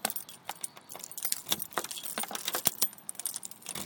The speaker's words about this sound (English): Put my keys away.